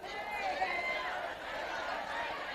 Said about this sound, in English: I want you all to start talking to each other at your table as loud as you can. I mean, I just want you to go, and I'm going to try to get your attention. So just start screaming at each other, okay?